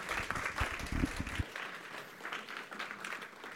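A crowd applauds steadily for a few seconds, a dense wash of many hands clapping. A louder, fuller burst comes early, then the clapping thins and continues at a lighter level.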